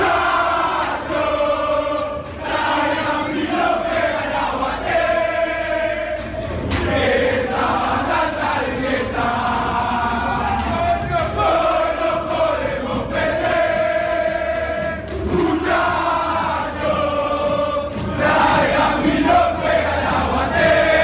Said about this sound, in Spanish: Bueno, vamos a escuchar esta versión de la hinchada de Aguada, hace unos cuantos años también.